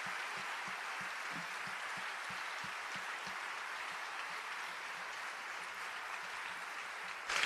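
A crowd at the Usina del Arte applauds steadily to welcome a duo from San Salvador de Jujuy onto the stage, a dense wash of many hands clapping at an even level throughout, with no voices over it and a slight swell at the very end.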